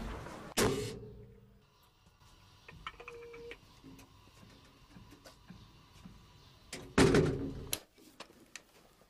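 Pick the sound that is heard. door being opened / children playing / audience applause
door being opened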